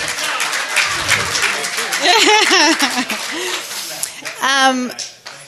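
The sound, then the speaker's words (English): An audience bursts into steady applause for a board member of the Indiana Blind Children's Foundation, a dense crackle of many hands clapping, with rising whoops and cheering voices layered over it before the clapping tapers off. “So please give him a round of applause for...”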